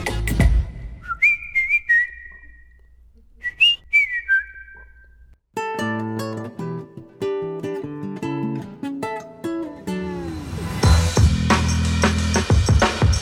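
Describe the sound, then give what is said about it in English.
A person whistles a bright, catchy melody in short rising and falling phrases, clear, before a full band kicks in and carries the music to the end. “But I couldn't stop whistling.”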